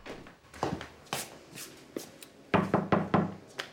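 knocking on a door

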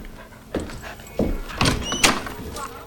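door opening

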